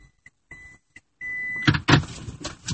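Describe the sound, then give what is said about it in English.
A Toyota Prius reverse warning beeps in short, evenly spaced electronic tones while the driver makes a three-point U-turn at a dead end, then holds one longer beep before bursts of rustling, thumping car noise take over, with no one talking. “There's the beeping of my Prius.”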